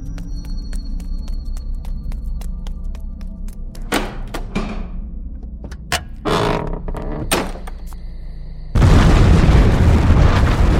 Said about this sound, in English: believe that the Abbey and its demonic legion was destroyed by the explosion and the resulting fire.